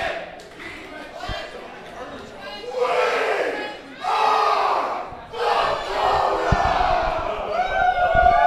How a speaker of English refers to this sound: Crowd is chanting demon shit.